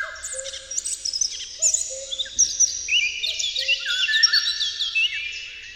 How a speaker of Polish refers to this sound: Echem dalekich tropików jest przepiękny, melodyjny flet wilgi. Całości koncertu dopełnia wesołe kukanie kukułki.